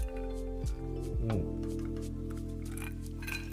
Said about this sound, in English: Hold on. Right now, I'm drinking some Knob Creek 9-year bourbon.